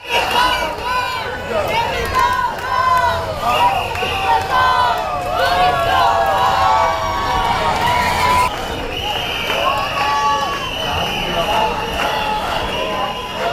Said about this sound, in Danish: særligt i Spanien og Italien, der er demonstranter på gaderne, som altså har store papskilte, hvor der står "Tourists go home", og så en masse hujen og råben, hvor de forsøger at vise deres modstand mod den masse turisme, de oplever i deres hjemby.